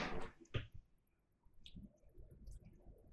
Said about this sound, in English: Jesus Christ, that scared the fuck. What was that? Toilet. Oh, yeah, bathroom. Flushing.